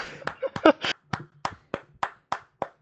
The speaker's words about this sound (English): Round of applause.